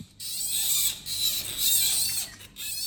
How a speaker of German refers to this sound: So klingen Panda-Babys kurz nach der Geburt.